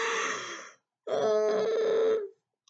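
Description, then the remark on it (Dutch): A person yawns: a short breathy intake, a brief pause, then a long, drawn-out groaning exhale that fades away, with no talking around it. “En dan moet je weer geeuwen.”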